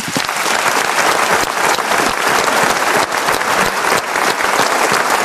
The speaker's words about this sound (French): Ah non, on repart pas tout de suite parce qu'on se plaît beaucoup à Montluçon et on applaudit Marc-Antoine Lebray.